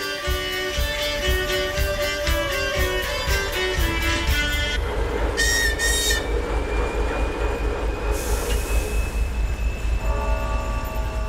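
A train on the line from the Arctic Circle to the Bovanenkovo gas field in the Russian Arctic rumbles steadily along the rails with heavy low-end clatter, punctuated by high metallic squealing and ringing tones from the wheels, loud throughout.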